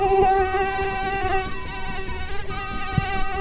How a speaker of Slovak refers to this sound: No mne by to teda pekne nevadilo, takýto zvuk komára. Ja už som zvyknutý, že počas leta toto počujem stále pri hlave.